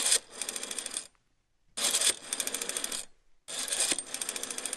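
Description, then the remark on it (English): A rotary phone being dialed: three bursts of rapid, whirring mechanical clicks as the dial spins back, each lasting about a second and separated by brief silent pauses. No one speaks. “I was just going to say, my son is going to miss the sound of a rotary dial phone.”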